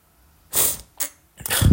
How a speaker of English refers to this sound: Oh, it's like 4 o'clock in the morning. That's why I keep sniffling.